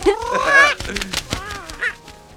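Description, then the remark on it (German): A bird squawks loudly and harshly in a burst of raspy, honking calls, with a shorter squawk following near the end. “Du bist ganz schön frech, kleiner Vogel.”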